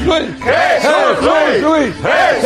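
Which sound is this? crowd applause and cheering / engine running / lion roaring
crowd applause and cheering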